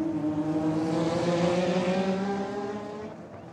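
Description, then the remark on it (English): A loud, high-revving race car engine roars past, its pitch sliding downward as it passes and then fading slightly, as a race car speeds by on a track. “Instead of musicians, now I was capturing the sound of car racing, tennis, baseball, football, whatever they sent my way.”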